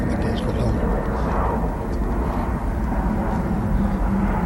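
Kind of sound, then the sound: vehicle, airplane flying overhead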